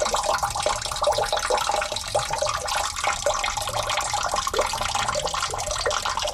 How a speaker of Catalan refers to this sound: I ara sentireu com sonen les fonts d'Osona i el Lluçanès.